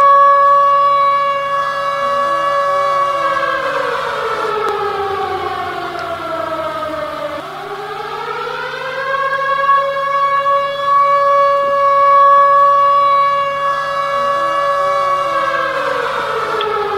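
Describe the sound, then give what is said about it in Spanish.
A loud, sustained radio siren wails steadily, signaling the start of the 27th edition of a club fishing contest on a sunny day with a north wind and a flat calm sea, its pitch sliding down and then rising back up in one long sweeping cycle, strong harmonics ringing throughout with no voices. “Con la sirena de la radio comienza la 27ª edición del concurso de pesca del Club Quilmes.”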